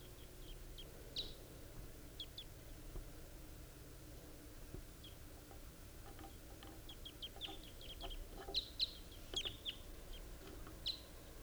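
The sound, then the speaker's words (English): A pair of wild birds perched in the trees trade short, high-pitched chirps, scattered at first and then bunching into a quicker burst toward the end, all over a faint, steady low rumble. “It sounds just like that same distinctive pair that I heard last night.”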